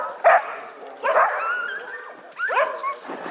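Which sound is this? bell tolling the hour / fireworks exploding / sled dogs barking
sled dogs barking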